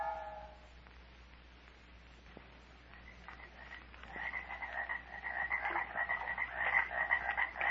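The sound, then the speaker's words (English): Swamp ambience of croaking frogs in the Dismal Swamp: a dense, rhythmic chorus that starts sparse and quiet, then swells into a loud, continuous pulsing din with a steady low hum underneath. No one speaks. “Murder has moved into the black decaying heart of the Dismal Swamp”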